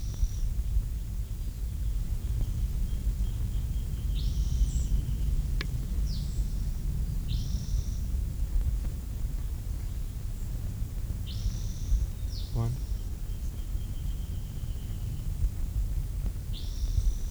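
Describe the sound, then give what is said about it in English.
A bird down the hill gives a series of faint, high calls in short bursts, a few seconds apart, over a steady low rumble of wind or background noise, with no one speaking. “I can hear the first bird down the hill, but this bird must have moved on.”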